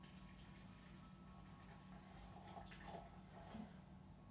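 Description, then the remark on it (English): Hot water pours steadily from a kettle into a jug holding a vegetable stock pot to make stock, a continuous soft splashing rush that stays fairly quiet and even, with a few brief gurgles toward the end and no talking. “I'm just going to add some hot water from the kettle.”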